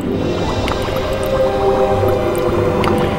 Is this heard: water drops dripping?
yes